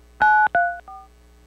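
Three quick telephone keypad tones from speed dialing on a caller's phone during a call, each a steady dual-pitch beep, the first two loud and the third shorter and fainter, heard alone over a faint line hum.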